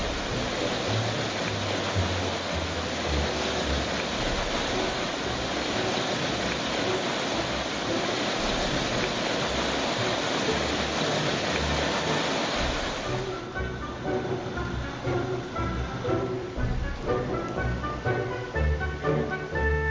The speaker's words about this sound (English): That serene little stream. It's now about 10 feet deep.